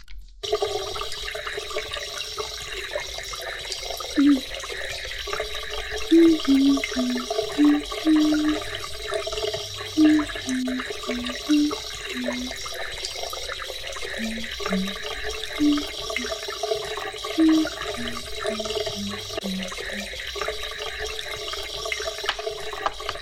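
A toilet flushes in a long, steady rush of water that lasts over twenty seconds, with low gurgling tones bubbling up through the middle. No one speaks.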